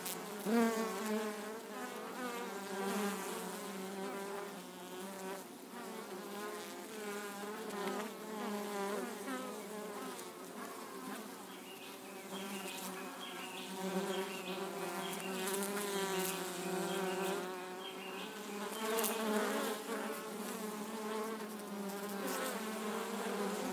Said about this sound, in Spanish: Estas son unas abejas que ancestralmente nuestros abuelos han cuidado y han conservado por la importancia que tiene la miel en nuestra salud, en nuestra cultura